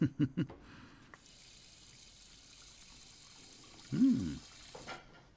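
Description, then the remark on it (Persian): A kitchen tap runs for a few seconds with a steady hiss of water as tap water is fetched for someone to drink, bracketed by brief murmuring voice-like sounds at the start and near the end. “یکم آب بیاری ممنون میشم. خوبه؟ آب شیر خوبه؟”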